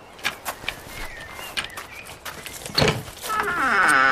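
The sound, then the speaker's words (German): A few soft clicks and a thump, then the door of a large two-storey building in need of repair swings open with a loud, drawn-out creak of wavering, squeaky tones that keeps building to the end. “Wow, die Tür knarrt aber ganz schön laut.”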